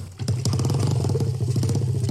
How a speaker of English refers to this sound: He put an engine in a bar stool and drives it around. He didn't. He did. This is your actual mobile 50cc bar stool, guaranteed to drive you to drink.